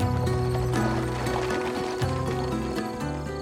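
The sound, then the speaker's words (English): Horse hooves clip-clop at a steady trotting pace as they pull a carriage driving away, mixed under a sustained musical drone with low tones. No one speaks. “But just as the carriage was driving away, someone called out from behind them. Wait! Stop the horses!”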